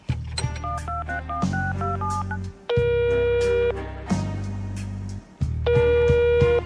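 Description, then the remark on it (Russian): A quick run of touch-tone telephone dialing beeps as a number is keyed in, followed by three long, loud electronic tones over a steady low hum, signalling that the dialed number does not exist. “Мы набрали несуществующий номер.”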